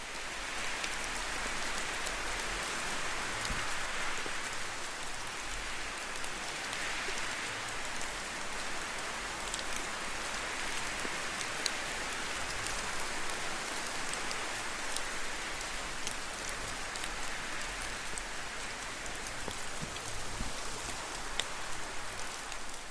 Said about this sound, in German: Während du den Tropfen des Regens lauscht, mit den Geräuschen des Windes sanft folgst gibt es für dich nichts weiteres zu tun